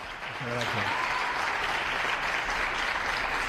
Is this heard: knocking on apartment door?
no